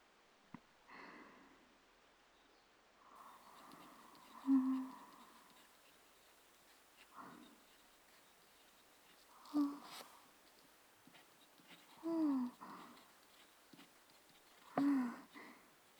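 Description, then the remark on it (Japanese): Several separate pen strokes scratch across paper, each a short quiet swipe or scrape, spaced a few seconds apart with near-silent pauses between them, as someone practises handwriting by copying a model. “止め、羽、払いがボールペンの時より確実にできている。そのまま意識を集中させて書き続ける。”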